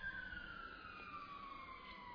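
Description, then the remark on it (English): An emergency vehicle siren wails steadily outside a building, its tone sliding slowly downward, muffled, with no voices present. “And yet, Lord, as we hear the sirens sounding outside this building, we can surely see that you are sounding an alarm bell to perhaps some here this evening, to those who may hear later on.”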